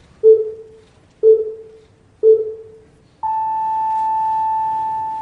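Countdown beeping at a gathering in Tokyo, Japan, counting down to a moment of silence at the exact time of the earthquake that triggered a tsunami 5 years earlier: three short, lower-pitched pips spaced one second apart, then a single long, higher, steady tone that holds to the end. No one speaks.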